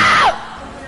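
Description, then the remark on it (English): A female video game character is hit by the player's car: a loud, brief cry that drops sharply in pitch within a fraction of a second, then fades into low background noise. “I just hit her with my car.”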